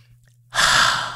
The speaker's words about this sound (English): Okay. Take a breath.